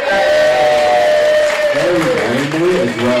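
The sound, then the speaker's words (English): A crowd claps loudly and steadily for a performer, a dense sustained wash of applause with whistles and cheering voices rising over it toward the end. “Didn't even have to learn any songs, could have just like had a mic turn on and got clapped.”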